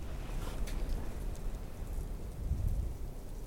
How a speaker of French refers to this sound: Sur ce plateau, comme vous pouvez l'entendre, le vent, des nuances de vent.